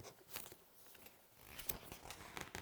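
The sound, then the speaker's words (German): A book page being turned: soft papery rustles and a few crisp crinkling flicks spread over a couple of seconds, quiet, with no voices. “Du kannst auch selber umblättern dann, wenn du möchtest, ne?”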